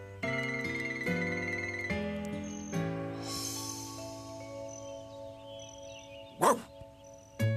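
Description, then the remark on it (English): A single short, sharp bark from Clifford the dog bursts out near the end over steady, tuneful background music; no one speaks. “Woof, woof. Now stop that. Stop it.”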